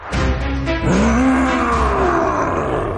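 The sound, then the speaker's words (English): A loud, drawn-out monstrous roar with a deep, sliding growl that rises and then falls, lasting a few seconds, with no talking. “Ooh, hello, scary monster from my nightmares.”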